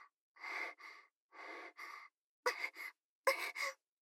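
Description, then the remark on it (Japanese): Heavy panting from one person, out of breath from saying "shiko shiko" too much: four paired in-and-out breaths at a steady pace, breathy. The last two pairs come sharper and louder, with no talking. “シコシコって言いすぎて、ちょっと息切れしちゃいました。”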